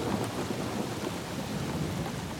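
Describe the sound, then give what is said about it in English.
A big thunderstorm with thunder and lightning: steady, dense rain hiss layered over low, rolling thunder rumble, continuous and fairly loud throughout, with no voices. “And there is a big storm with thunder and lightning.”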